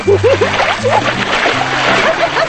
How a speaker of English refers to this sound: Suddenly, she lifts the bucket and drenches him. Grinning, they throw water at each other.